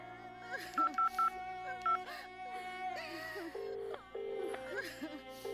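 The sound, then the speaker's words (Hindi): Four short, loud telephone keypad tones beep in a quick uneven run early on, three close together and one after a pause, as someone dials a phone to try calling once more, over a steady murmur of background voices and sound. “एक बार फिर से फोन करके देखो।”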